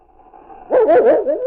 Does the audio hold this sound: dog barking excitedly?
yes